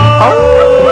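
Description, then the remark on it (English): A loud wolf-like howl, sung as part of a song, holds one long steady tone that bends slightly in pitch, filling the whole second over a low background hum. “When it's dark at night, I hold my baby tight, and like a wolf is bayed in the moonlight, I howl. Now everybody howl.”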